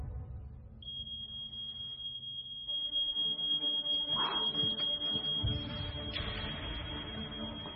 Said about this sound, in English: On hearing a smoke alarm, a mother would look towards her child. Amazing how fire exposes our priorities.